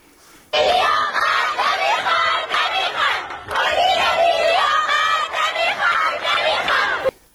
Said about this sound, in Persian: دانش آموزان این مدرسه دخترانه در محله دیلمان شهر ری در اعتراض به سیاست‌های مدیریتی این مدرسه در داخل حیاط تجمع کردند و شعار اعتراضی دادند